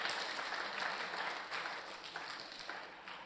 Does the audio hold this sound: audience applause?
yes